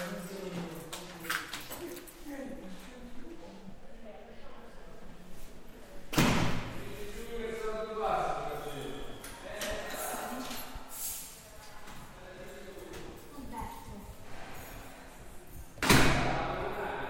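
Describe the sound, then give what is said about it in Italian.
Keys rattle in the locks of heavy armored doors to the wards of the Fatebenefratelli institute in Genzano, Italy, with two loud metallic thuds as the doors swing and bang, one midway and one near the end, over faint background voices. “Queste che sentiamo sono le chiavi che aprono le porte blindate dei reparti dell'Istituto Fate Bene Fratelli di Genzano.”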